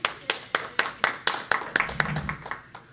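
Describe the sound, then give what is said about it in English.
A steady run of about a dozen sharp hand claps at a brisk, even pace, fairly loud and crisp, with a faint murmur of voice briefly underneath near the end. “All right, this isn't a meeting, so we didn't all clap when everybody shared, but I have to clap, you guys.”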